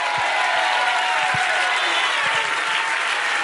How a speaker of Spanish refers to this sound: Por eso, si tú eres un visitante aquí y no entiendes por qué esta gente está tan loca, por qué esta gente aplaude como aplaude y grita como grita, y por qué cantan como cantan y algunos hasta danzan, te voy a decir por qué.